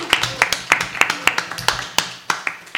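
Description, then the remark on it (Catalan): A small group claps in a steady rhythm, about ten sharp, distinct claps in under three seconds, fairly loud with no talking over them. “Un aplaudiment, vinga, va, ben fort!”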